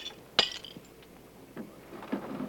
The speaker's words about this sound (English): He then opens the valise, takes out a hammer and breaks the window.